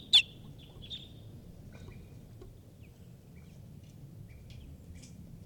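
A wild bird gives sharp, high alarm chips: one loud call at the start, then a few fainter scattered notes over a steady low background rumble.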